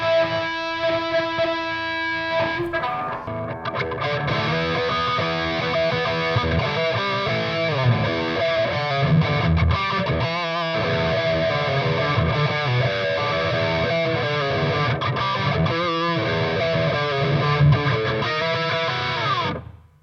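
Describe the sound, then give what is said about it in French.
Heavily distorted electric guitar played through an MXR distortion pedal with the gain turned all the way up, a thick saturated tone playing sustained chords and riffs continuously for about twenty seconds, loud, with no talking. “Là, on était sur une, sur une MXR super badass distorsion. J'avais quand même poussé le gars à blinde.”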